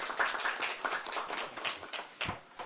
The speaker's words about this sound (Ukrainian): На комітеті овації вже другий раз.